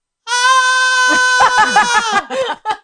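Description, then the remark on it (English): A person's voice mimics the loud, drawn-out scream of their cat, Figaro: a strained, wavering, high-pitched yowl held for about two seconds, breaking into a few shorter, choppy cries at the end. “But my one cat would just randomly go...”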